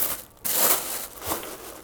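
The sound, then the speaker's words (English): Paper packaging holding artwork is pulled open at the ends with a burst of crisp crinkling and rustling, loudest early on and then settling into softer crackles, with no one talking. “Pull open the ends.”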